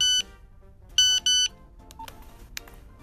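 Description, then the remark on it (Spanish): A series of different SMS text-message notification tones: a few bright harmonic beeps, then quicker chirps and blips, clear with quiet gaps between them. “Son diferentes tonos de SMS, de mensajes de texto.”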